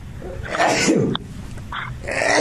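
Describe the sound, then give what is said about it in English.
A single loud sneeze at Rosie's: a rising, breathy intake that bursts into a sharp, noisy explosion, followed by rough background noise with no speech. “Sorry, I had to sneeze.”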